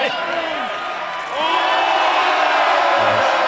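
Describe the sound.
A crowd cheers and whoops loudly as mayonnaise is poured all over a man, voices overlapping in a dense, excited roar that swells after a brief dip and stays high, with scattered high-pitched shouts riding on top.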